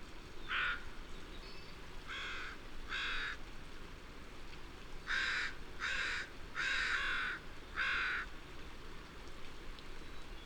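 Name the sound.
crows cawing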